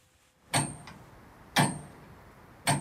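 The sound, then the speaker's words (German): Heavy mechanical ticking of an old tower clock mechanism, three loud, resonant clacks roughly a second apart, each with a metallic ring and a short decay, clear with no voices. “Und wenn die denn so ein Uhrwerk sehen und hören, wie das Tick, Tack, Tick, Tack macht, die sind immer ganz fasziniert.”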